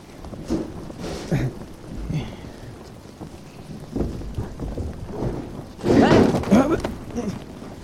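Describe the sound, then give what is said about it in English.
Steady rain hisses over a crumbling, rotten ruin while low, distant thunder rumbles in several rolls, swelling into a louder, longer peal toward the end. “Yeah, well, that'd be easier if I wasn't digging through a crumbling, rotten ruin in the rain.”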